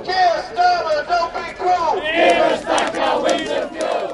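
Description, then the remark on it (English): A crowd of protesters outside Parliament chants together in loud, rhythmic unison, calling for reversal of the decision to scrap winter fuel payments for pensioners, many voices rising and falling in a steady call pattern with overlapping shouts throughout. “As a protest is held outside Parliament, it's calling for the reversal of the decision to scrap winter fuel payments for millions of pensioners.”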